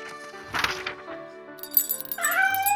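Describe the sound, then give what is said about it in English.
A cat meows once or twice, a short rising cry near the end, after a brief rustling noise; no one speaks. “At the start of the new year, I like to feed that cat to say sorry for the race.”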